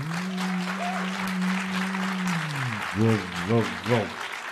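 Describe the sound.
An audience claps steadily for several seconds. A held, low voice-like tone sounds over the clapping, then gives way to three short rhythmic vocal bursts near the end.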